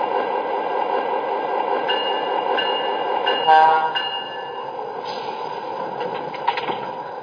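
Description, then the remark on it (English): A passenger train, train number 2 on track 1, pulls into the station at Grand Junction with a steady rumble of wheels on rails, a few clanks, and a thin high-pitched squeal running over the top. “Bombin on track 1, train number 2, the Scenic Limited.”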